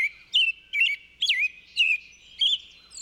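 American robin song: about five or six short, clear whistled phrases rising and falling in pitch, delivered in a steady caroling rhythm with brief gaps between them, no voices present.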